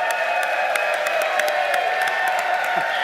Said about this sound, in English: And the applause went on and on. So mark it, October 21st, 2019, a moment of dramatic change for Sacramento.